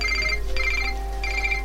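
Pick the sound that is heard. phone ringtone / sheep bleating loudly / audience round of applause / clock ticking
phone ringtone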